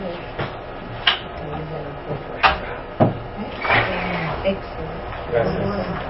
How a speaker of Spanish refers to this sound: Hace un poco de calor. Voy a abrir aquí la puerta.